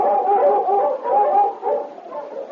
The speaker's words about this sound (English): Suddenly, he barked eagerly, ran a short distance, then stopped and looked back, still barking.